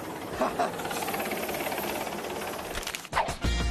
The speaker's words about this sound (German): Und ihr fragt euch wahrscheinlich, warum es hier gerade so laut ist. Schaut mal da oben. Von dem Helikopter werde ich jetzt hier gleich gerettet.